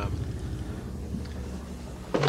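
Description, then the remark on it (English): A helicopter drones overhead as a steady, low engine rumble with a throbbing undertone, moderately loud throughout, with a brief brighter burst of noise right at the end. “Do you hear that? Yeah, it's a helicopter.”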